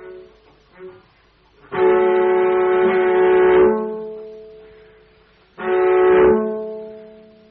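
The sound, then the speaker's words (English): Two sustained, bright bowed notes sound in turn, the first longer than the second, with a faint low humming differential tone, produced by the two notes together, lying beneath each and lingering as the notes fade. “If you listen very carefully, you will hear a low note humming underneath.”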